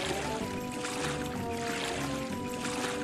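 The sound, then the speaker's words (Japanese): Rhythmic boat paddle strokes on a quiet, peaceful boat ride at Stresa churn and splash through water in a steady sequence, with a faint tonal hum sustained beneath the sloshing. “この漕ぐ水をかく音が大きい時がいいらしい。”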